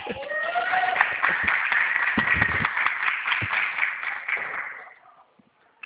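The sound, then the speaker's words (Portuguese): Office colleagues clap steadily and loudly for about five seconds to celebrate a colleague closing a sales contract, a dense rattle of hand claps with some voices mixed in, before the applause quickly dies away to near silence. “Tá ouvindo as palmas? Sim. É que aqui quando a gente fecha uma venda, né, um contrato, a gente comemora.”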